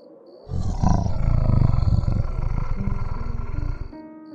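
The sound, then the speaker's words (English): A strangled, groaning growl erupts suddenly and rumbles low and rough for about three seconds, loud and continuous, then cuts off abruptly, leaving only a faint fading tail. No one speaks. “A strangled half-groan, half-growl sounded.”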